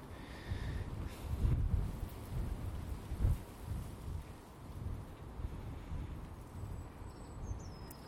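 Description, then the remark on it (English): Steady rain patters across a broad hiss as the first rain from dark clouds arrives on a breezy day, while low, distant thunder rumbles and swells, with a stronger roll around the middle; no voices. “In fact, as I speak, I can actually feel, yep, that's the rain. That's the leading foot soldiers of the rain clouds.”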